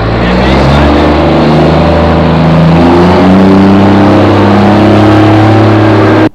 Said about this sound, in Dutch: Ja, er rijdt nog een bus achteraan. En nog een bus. Een gepantserde bus met speciale ramen erin.